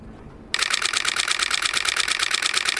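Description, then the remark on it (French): After a brief hush, the shutter of a new Nikon camera body fires in a rapid, steady burst, with dozens of crisp mechanical clicks running together like a machine-gun rattle and holding an even, bright loudness to the end. “Une mitrailleuse, hein ? C'est une mitrailleuse.”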